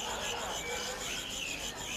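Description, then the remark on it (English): A caged cricket chirps in a steady, high-pitched rasping trill that pulses faintly throughout, with no voices over it. “He said, just listen to its song.”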